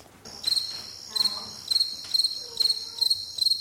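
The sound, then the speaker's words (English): A meadow katydid, found in a grassy field area, chirps in a steady, high-pitched buzz, broken by brief louder pulses that repeat about every half second, with no voices. “This is one of those meadow katydids, and we found one in a grassy field area.”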